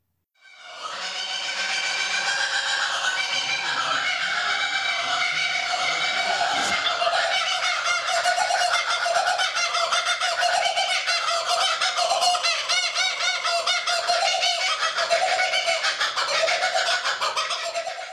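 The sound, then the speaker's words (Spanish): A kookaburra's raucous laughing call rings out loud, a continuous cackling chorus of rapid, chattering hoots that carries on for the whole stretch with no voices. “Por favor, un segundo para escuchar el sonido del cucaburra.”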